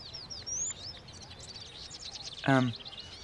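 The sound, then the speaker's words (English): Several birds chirp and tweet continuously in quick, high-pitched bursts, with a brief, louder voice-like sound cutting in near the end. “let's get to the birds.”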